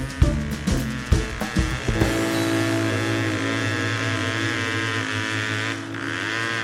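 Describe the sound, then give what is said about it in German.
A car engine sputters and coughs for a couple of seconds, then settles into a steady, loud droning idle with a constant humming tone and no voices. “Können Sie mal den Motor so gut mucken?”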